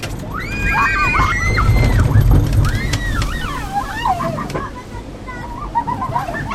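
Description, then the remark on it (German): A log flume boat on the world's largest transportable water ride, with three drops, rushes down into the water with a steady roaring splash in bright sunshine at nearly 30 degrees, while excited riders shriek and squeal loudly over the churning water throughout. “Wir beenden unsere Runde mit einer Fahrt auf der Wildwasserbahn, die auch auf Krange zu Gast sein wird”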